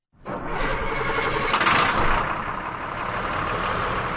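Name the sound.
school bus engine idling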